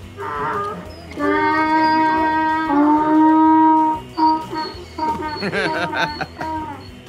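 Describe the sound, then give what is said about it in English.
A donkey brays loudly, a long harmonic honking call with a few rasping inhaled breaths before and after, heard alone with no talking. “Donkeys, from the domesticated donkey to their wild ass kin.”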